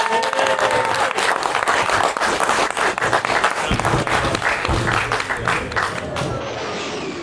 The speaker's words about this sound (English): Big round of applause for us.